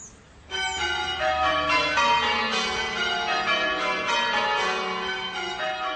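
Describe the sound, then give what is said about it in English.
Eight church bells ring in rounds, in order from the highest to the lowest: a steady descending sequence of overlapping metallic strikes with long ringing tones that layer into a dense, resonant wash, loud with no voices. “What you do is you start with the bells in order from the highest to the lowest in what we call rounds, so 1, 2, 3, 4, 5, 6, 7, 8.”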